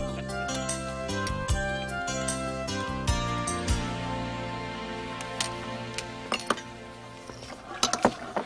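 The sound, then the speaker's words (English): Dishes and pans clink and clatter as they are washed, with repeated sharp metallic and glassy knocks over a steady background hum, with a brief cluster of clanks near the end. “Well, that's the last of the dishes.”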